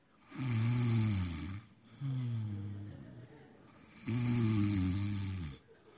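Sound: person imitating snoring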